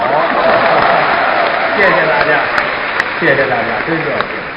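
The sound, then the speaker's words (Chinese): Sustained, dense applause from an audience at a two-man stage performance with Guo Degang in Jinan, China, fills the whole stretch at a steady, loud level, with a man's voice speaking faintly over the clapping. “谢谢大家给我一个人的掌声， 两个人上台表演，给您一个人的掌声啊， 再拍是给你拍的了。”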